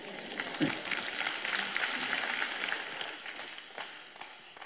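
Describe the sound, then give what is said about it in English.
A church audience claps softly in the morning, a scattered, steady patter of many hands that stays fairly quiet throughout and tapers off slightly toward the end. “You're clapping awful quiet this morning.”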